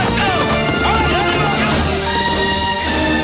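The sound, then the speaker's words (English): Hooves clop steadily as riders on horseback work cattle in a split-rail corral beside a weathered barn in a wide valley, amid a busy, loud mix of livestock noise, with a horse's whinny rising early on and faint indistinct voices in the background. “Riders on horseback work cattle in the corral.”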